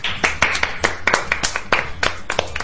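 A quick run of sharp hand claps, about a dozen crisp slaps in a fairly steady rhythm, loud and bright, with no talking over them.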